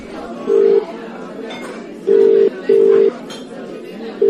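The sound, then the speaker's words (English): A phone number is dialed: four steady electronic keypad beeps, each lasting under half a second and unevenly spaced, sounding over a faint murmur of background noise. “OK, I'll phone her.”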